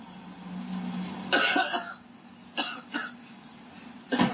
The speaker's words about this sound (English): What the hell's going on over there? He's like, that fake ass cough. What are you doing? Just my allergies, sir.